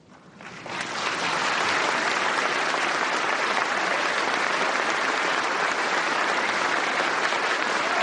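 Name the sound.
standing applause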